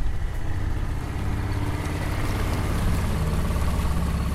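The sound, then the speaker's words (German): A small boat's outboard motor runs steadily at a constant idle-like drone, loud, with a low rumbling hum that never lets up and no voices, as the boat heads out onto a lake. “Die 26-jährige Doktorandin wirft den Motor des kleinen Bootes an und fährt raus auf den See.”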